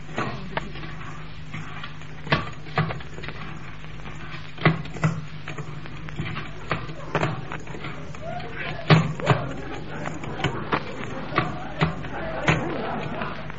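Door bolts being drawn back on the door of an old, ruined French chateau at midnight: a string of sharp metallic clunks and clicks at uneven intervals, about a dozen, over a low steady hum, some louder than others.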